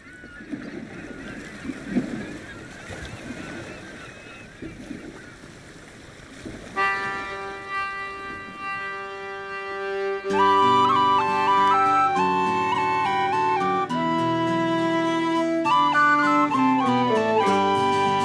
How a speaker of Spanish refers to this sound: Y con pues gaita, claro, con gaita. Joder, de lujo, sí, te he dicho. Es que estoy con mono de gaita. Vamos en a Galicia, serio, anda. Vamos a Galicia con buena gaita. Escucha.